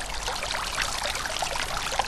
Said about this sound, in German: Wir hören den Brunnen vor einem Haus an der Ortseinfahrt von Lassee und verlassen fürs Erste Niederösterreich.